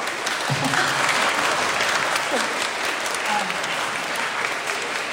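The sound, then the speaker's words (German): Sustained applause from a crowd in a church during a week of children's Bible days (Kinderbibeltage), a dense, steady wash of many hands clapping at an even loudness, with faint voices murmuring underneath throughout. “Wir dürfen klatschen, richtig klatschen.”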